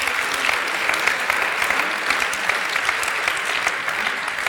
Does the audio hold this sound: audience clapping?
yes